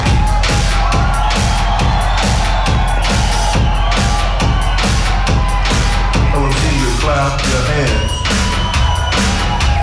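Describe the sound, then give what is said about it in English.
A large crowd claps together in a steady, even rhythm, loud and continuous, with scattered yells and cheers and a thick, busy background of music and noise. “Let me hear you clap your hands.”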